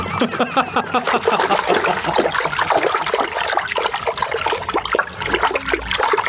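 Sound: splashing water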